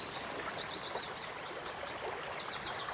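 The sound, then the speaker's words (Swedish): A steady, close babble of stream water runs unbroken throughout a wetland, heard from the stream's edge, with faint bird chirps twittering now and then above the rushing flow. “Det pålar. Och det är så kraftfullt att vara nära ett vattendrag så här.”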